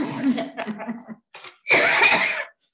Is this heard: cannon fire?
no